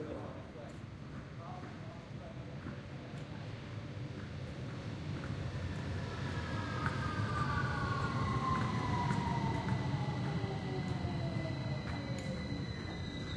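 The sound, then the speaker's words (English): An underground train rumbles into a station platform and decelerates, its brakes letting out long descending squeals that glide downward over a steady low roar, growing louder as it draws alongside and slows to a stop. “This will arrive at Rockford Ridge in 20 seconds. Please stand back behind the yellow line, back behind the yellow line.”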